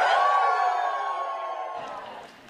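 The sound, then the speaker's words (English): A group at Cornerstone Chapel cheers and whoops together in a loud, sustained burst that gradually fades over a couple of seconds, with no speech over it, as their reaction to hearing the words "Welcome to our online viewers." “We just found out the only time they weren't cheering is when they were told they can't go to Israel.”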